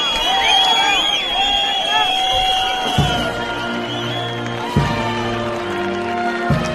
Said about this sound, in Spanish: Y en plena protesta de los de Podemos y de algunos del PSOE por la visita del rey don Juan Carlos a España, se han escuchado pitos y gritos de rabia, pero no precisamente para el padre de don Felipe, sino contra el ministro Marlaska.